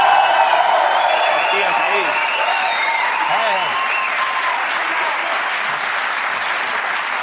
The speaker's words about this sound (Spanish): Un aplauso para Ricardo y Gris.